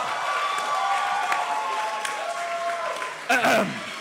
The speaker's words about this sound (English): I've never seen anyone get a genuine cheer from a rap that involves I enjoy X in a major way. I would say that's the most applause to number of rhymes in a rap ratio that I've ever seen.